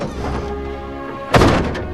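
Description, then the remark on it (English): The heavy door of an old pickup truck thunks shut once at a trailer home, a solid thud with a brief metallic ring, following a low steady rumble of an idling engine or ambient hum. “He gets out of his old pickup truck”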